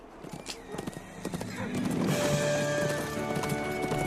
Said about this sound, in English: A man in a black horse gallops across the snow. The horse rears on its hind legs.